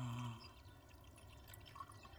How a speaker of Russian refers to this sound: Анна наливает Олегу чай.